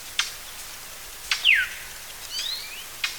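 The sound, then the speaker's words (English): A brown thrasher and a goldfinch call over each other: sharp, harsh chips repeat at intervals, a bright downward-sliding whistle cuts through, and faint high twittering follows, with no talking. “The first part, so it was two species calling on top of each other. Right. The first one is the brown thrasher.”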